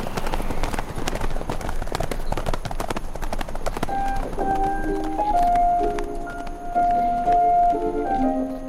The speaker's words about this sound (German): Galoppiert noch einige Sprünge neben ihr her.